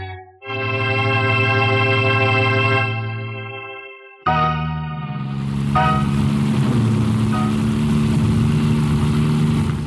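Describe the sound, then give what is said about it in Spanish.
A sustained, buzzing musical tone is followed by a car engine that roars in abruptly and keeps revving loudly and steadily as the car speeds through empty streets near the docks. “Un auto se desliza veloz por las solitarias calles cercanas a los muelles.”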